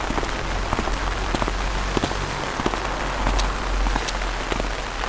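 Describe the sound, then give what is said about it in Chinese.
Steady rain falls across the whole stretch, a dense hiss with scattered sharper drops pattering on a surface and a low rumble underneath. No one speaks. “这不是想着下雨冷吗？两人一把伞，我还能搂着你。”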